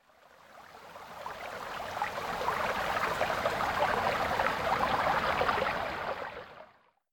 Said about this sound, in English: This is what the water flowing in a creek sounds like.